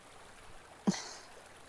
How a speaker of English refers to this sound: The creek and the birds and everything will drown out any noise that we make.